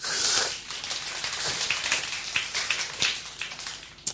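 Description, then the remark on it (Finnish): An audience claps in a dense, steady burst of applause, bright and crackling, holding at an even level for about four seconds with a few sharper individual claps near the end. “Nyt saa taputtaa.”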